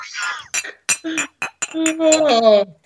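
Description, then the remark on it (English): A voice playfully imitates glass clinking with a quick run of sharp, ringing vocal clinks, close and fairly loud, ending in a drawn-out sung tone. “Clinkity, clink, clink.”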